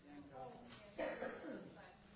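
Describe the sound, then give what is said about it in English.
A sharp cough bursts out, followed by a rougher second one, with faint murmuring voices around it. “I'm getting coughs and too many multiple comments.”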